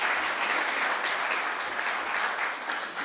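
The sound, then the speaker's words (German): A crowd applauds the technical crew who repaired the equipment, a dense wash of many hands clapping at an even level for a few seconds, with no voices over it. “Herzlichen Dank nochmal an die Technik und einen kleinen Beifall dafür.”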